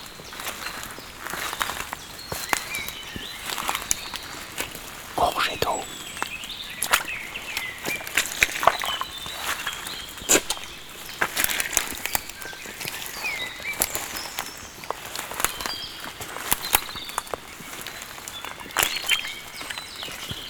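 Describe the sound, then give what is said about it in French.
Footsteps tread slowly over soft, damp, rich forest soil amid dense vegetation, each step a muffled squelch and rustle of leaves, with bird chirps and insect buzz filling the background. “Au sol, comme vous pouvez l'entendre, la terre est grasse.”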